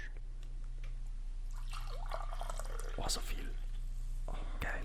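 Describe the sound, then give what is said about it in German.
Green tea pours into a cup, a steady splashing trickle with a few drips, over a low constant hum and soft breathy whispering. “darf ich mir von deinem geilen Grüntee eine Tasse einschenken?”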